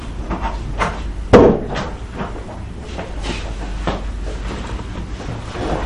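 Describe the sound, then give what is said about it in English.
A door shuts with a single solid thud early on, standing out above a steady low rumble and faint shuffling and clatter that continue afterward. “can you show me to close the door, please?”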